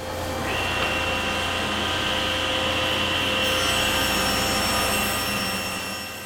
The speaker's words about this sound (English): Top-of-the-line table saws, band saws, milling tools, and a jointer are spaced out across the first floor, connected by a hanging system of vents that vacuum sawdust as it's made at each station.